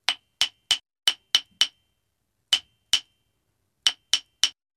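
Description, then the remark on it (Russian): A hammer strikes sharply as someone makes things: a steady run of six blows, a pause, two more, then a final three, each hit ringing briefly and clearly with no voices. “Дед мастерил, молотком стучал.”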